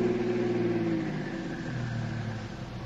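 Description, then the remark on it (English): A car engine hums steadily, its pitch slowly dropping as the car decelerates and rolls to a stop about half a block away from El Aguila, with no voices. “Let's stop about a half a block away.”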